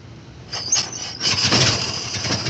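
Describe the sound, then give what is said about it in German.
A vintage car engine is started with a hand crank, with a few rhythmic turning bursts before a louder, rough mechanical rumble takes hold. It is fairly loud, with no talking. “Angelassen wurden Autos, wie in jedem guten Sturmfilm zu sehen, mit einer Kurbel.”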